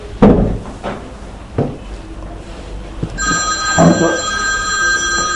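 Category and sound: household object, telephone ringing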